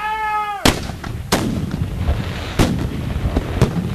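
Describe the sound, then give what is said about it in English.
Four loud cannon blasts from gun number six boom at uneven intervals in a reenactment of the October 13, 1812 American attack on Queenston Heights, at the Lewiston Landing, each with a sharp crack and a rumbling tail, after a brief high harmonic whine at the start. No one speaks. “Battery to action! On October 13, 1812, the Americans launch an attack on Queenston Heights. Gun number six.”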